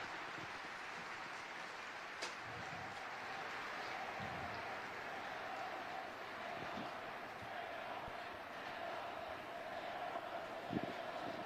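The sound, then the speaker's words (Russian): A large crowd roars and shouts continuously, a dense, steady wall of cheering voices with occasional louder bursts rising above the din, interrupting a religious leader's blessing address given in Italian. “его, видимо, перебивают крики толпы.”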